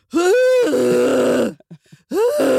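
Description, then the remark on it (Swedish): A voice imitates an old woman groaning: a loud, drawn-out moan that rises in pitch, then settles lower, followed by a few short breaths and a second rising groan. “Det var en väldigt gammal tant som hela tiden skulle låta så här.”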